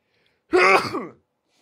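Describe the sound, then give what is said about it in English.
A single loud sneeze, a short voiced burst lasting under a second, surrounded by silence. “Hold on, sneeze coming.”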